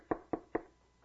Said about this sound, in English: So they're trying to meet together to plan this out and there's a knock on the door.